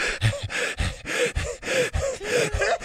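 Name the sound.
heavy panting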